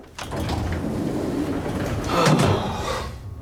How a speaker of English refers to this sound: Carl gets into an elevator and presses a button. The doors close.